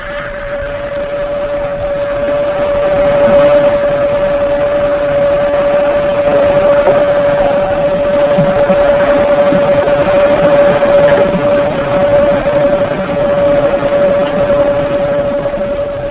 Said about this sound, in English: Remember that the newer submarines at low speeds produce a characteristic hum or whine, not always accompanied by the sound of the propellers.